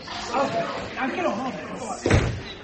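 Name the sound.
door slamming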